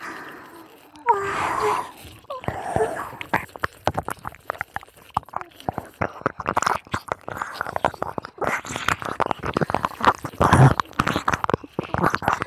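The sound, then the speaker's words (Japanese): Ear licking mouth sounds: a dense, irregular run of wet clicks, smacks and soft slurps with breathy pauses, intimate. “いいんだったら耳舐めて我慢してよっと。”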